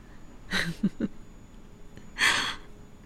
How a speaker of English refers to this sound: I mean, judging from your breathing and I'd say you're at least a little open to the idea.